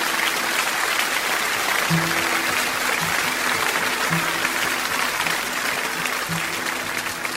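A large audience applauds a songwriter who is out in the audience, the dense clapping steady and loud for several seconds with no voices rising above it.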